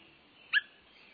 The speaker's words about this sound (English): When Swainson's thrushes first returned to nest in the woods of the West or the northern states in Canada, they announced their presence with subtle calls. Limpid, whit, or wink sounds.